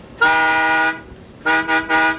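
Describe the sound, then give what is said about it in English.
A loud, brassy trumpet blast: one long held note, a brief pause, then three short bursts in quick succession, with no voices. “So may we hear the fifth trumpet of truth, please.”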